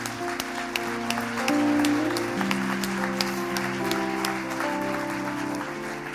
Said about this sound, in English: Merci à chacun, on les applaudit encore bien fort.